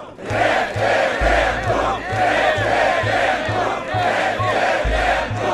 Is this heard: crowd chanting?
yes